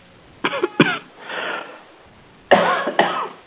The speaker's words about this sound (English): Who's the one with the bad cough? Boy. That's me.